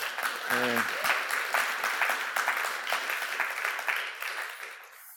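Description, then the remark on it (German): An audience at a church service breaks into steady, dense applause for the band lasting about five seconds, with a brief voiced whoop near the start before the clapping slowly thins. “Wir sind ja jetzt wieder ein paar mehr Leute, dann dürfen wir auch mal einen Applaus geben, oder?”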